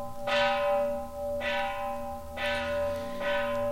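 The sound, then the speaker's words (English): Gong cymbals struck four times at a steady, unhurried pace, each hit blooming into a bright metallic shimmer over a sustained ringing tone that never fully fades between strikes. No voices. “And I sure wish I could slow these gong cymbals down.”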